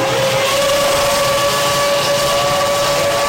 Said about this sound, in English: This is the start of an F1 race.